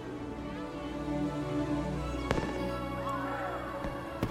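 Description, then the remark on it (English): Fireworks light up the night sky, booming and crackling over a steady low rumble, with a couple of sharp bursts standing out amid a continuous wash of pops and sizzling noise. “Later, fireworks light up the night sky.”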